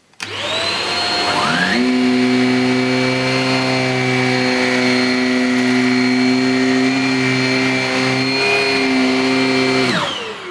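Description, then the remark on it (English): A vacuum cleaner runs steadily over sofa cushions, loosening gathered dirt and dust, with a loud motor whine and strong tonal hum, revving up at the start and winding down near the end, with no one speaking. “And hopefully this shot you'll be able to see all the bits vibrating and being loosened before they're sucked in to the machine.”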